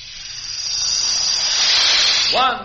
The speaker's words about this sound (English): what do you say we listen to an up-to-the-minute sound, a sound of the atomic age? Such as? Have you heard a jet plane take off? Listen! That's power!